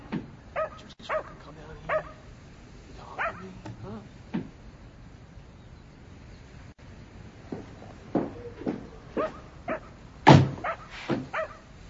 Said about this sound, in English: What kind of dog is that? Is that a Cocker Spaniel?